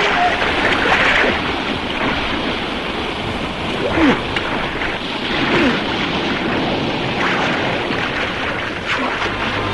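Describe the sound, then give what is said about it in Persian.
A ship approaching on open water: steady, loud rush of water and wind, with the ship's churning wash droning throughout; brief swells of surf-like noise rise and fall, and no voices are heard. “آره خود کشتیه. وای خدا، به من نزدیک شده.”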